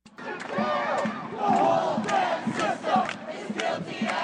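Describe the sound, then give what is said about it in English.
A large protest crowd of hundreds in Oakland on a Friday night, as windows were smashed, cars vandalized and one set on fire, shouts and yells in a steady, dense roar, with overlapping voices rising and falling and sharp bursts of louder cries cutting through throughout. “Well, that's what it sounded like on Friday night when hundreds smashed windows, vandalized cars, and set one on fire.”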